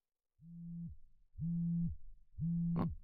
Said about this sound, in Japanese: あれ、俺のスマホ鳴ってる？ちょっとごめん、すぐ済ますから。